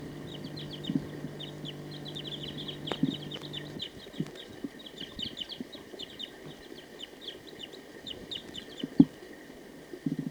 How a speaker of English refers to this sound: It's recording. There's a wild bird here. Wild bird. It's recording the wild bird again.